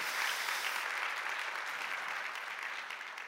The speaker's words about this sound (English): Again, thank you, everyone. Thanks for standing and thanks for clapping. Yeah, thank you so much.